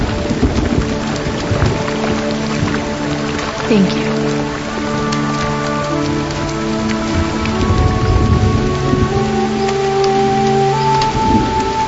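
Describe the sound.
Steady rain falls throughout, a dense, constant patter on surfaces, with low rumbling beneath and sustained tones over it; a voice speaks briefly amid the downpour.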